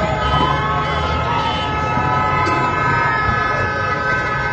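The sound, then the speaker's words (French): A sustained chorus of car and motorcycle horns honking together, cars first and then motorcycles, opening a street protest. The sound is loud and continuous, blaring over a dense street din with no pauses for the whole stretch. “Ils débutent généralement par un concert de klaxons, les voitures d'abord, puis les motos.”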